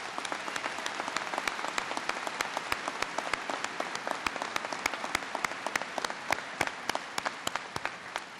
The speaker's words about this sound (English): So let's give the family members and all the people who helped get you here, let's give them a big round of applause.